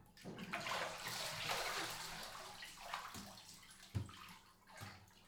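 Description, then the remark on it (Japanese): Shower water runs steadily in a broad hiss, with a few splashy bursts and soft thuds as the spray shifts, fairly loud, with no talking. After a bath, the shower is being sprayed onto a seated person's back from behind. “シャワーを後ろからかけてあげる。 あ、これじゃあ暑いかな。”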